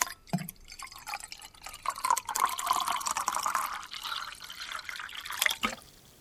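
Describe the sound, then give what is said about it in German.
Water pours steadily from a bottle into a glass for several seconds, a continuous splashing trickle with a faint gurgle, starting with a small clink and stopping abruptly near the end. No one speaks. “Eben war doch die Flasche noch voll. Ist das Glas jetzt halb voll oder halb leer?”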